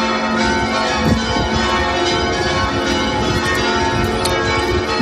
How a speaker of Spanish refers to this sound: Son las 12 de esta mañana. La catedral de la capital letona se hace oír con su repicar de campanas.